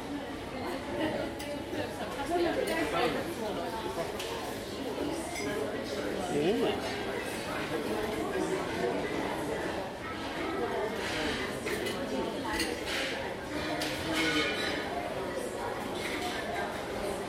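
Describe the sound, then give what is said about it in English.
A real teacup and crockery clink now and then amid a steady murmur of many voices, giving a busy, noisy feel. “It's looking a teacup clinking in not a virtual cup of tea, a real.”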